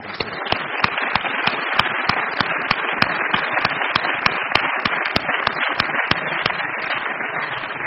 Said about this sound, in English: So I just want you to join me in a round of applause for the Eakin family, in particular for Gail Eakin.